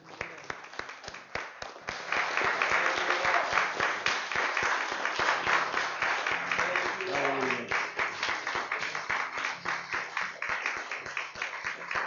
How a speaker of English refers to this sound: If you're willing to carry the sword of God's word, if you love him with all your heart, as we leave this morning, let's give him another hand clap of praise this morning.